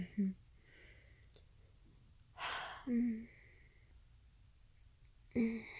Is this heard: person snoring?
yes